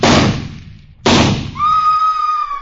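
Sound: rifle shot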